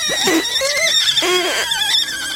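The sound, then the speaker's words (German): Two people blow air through small holes in raw eggshells to push out the contents, making loud, squeaky squeals that slide up and down in pitch in several uneven bursts, trumpeting like a small elephant. “Meins ist leer, klingt ein bisschen wie Elefanten im Stall, aber die Eier sind leer.”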